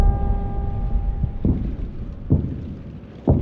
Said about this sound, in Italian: La notte è buia e sopra le nostre teste sentiamo il rombo sordo dei bombardieri passare minacciosi.